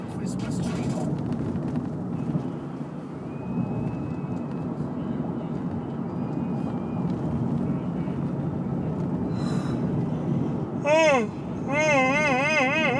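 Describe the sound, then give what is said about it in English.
A pickup truck accelerates hard off the line from a stop, its engine roaring with a heavy, steady rumble that holds for several seconds before a wavering, rising whine joins in near the end. “Pickup truck clearly wanted to race. It's flying off the line.”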